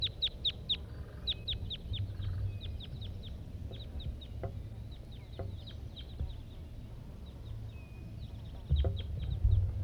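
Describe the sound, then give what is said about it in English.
Calls of a wild red male red crossbill, recorded at 9 a.m.: sharp, high 'kip' notes repeated in quick clusters and scattered singles, clear over a steady low rumble of background noise. “It's 9 o'clock now, 9 o'clock a.m., and there's a wild crossbill here. Red male.”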